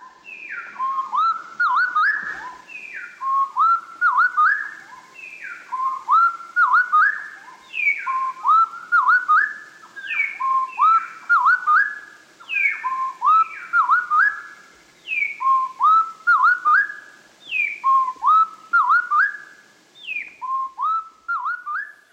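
A slowed-down wood wren duet: two birds trade clear, mellow whistled phrases in a steady repeating pattern, with descending slurs alternating with bouncy lower notes. Loud and continuous, with no talking.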